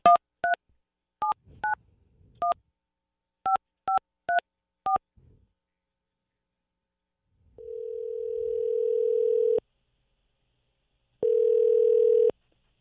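Ten short touch-tone beeps dialed in an uneven rhythm as the TSN 1200 radio show phones the latest winner of its Sens Jersey Monday contest. Each beep is a crisp dual-pitched chirp, followed by two long steady low ringback tones with a pause between. No voices.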